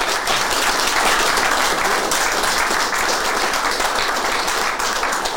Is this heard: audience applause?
yes